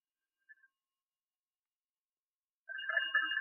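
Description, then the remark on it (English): A telephone starts ringing after a short silence, a steady, bright electronic trill of layered high tones that carries on to the end. A tiny faint blip sounds just before it. “Wait, dear Clodagh, for that phone.”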